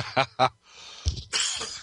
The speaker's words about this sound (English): The way I'm yawning here today.